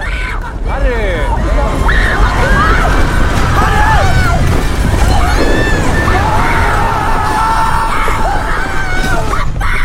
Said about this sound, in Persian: ولی یکی از این بهمنای مصنوعی ظاهر وحشتناکی داره و میاد سمت رستوران. همه جا شروع به لرزش میکنه و مردم فریاد میزنن.